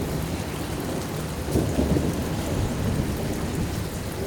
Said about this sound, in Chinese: 暴风雨马上要来了，小鸟和花草都停止了歌唱。